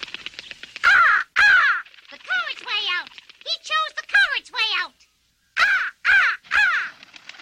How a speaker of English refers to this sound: A black raven flew into the room and perched on the bookcase.